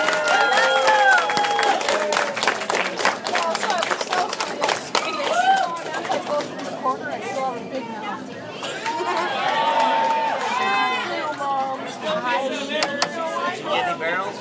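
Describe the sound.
A restaurant crowd breaks into loud, steady applause with a few cheers, and the clapping gradually thins into lively overlapping chatter and voices.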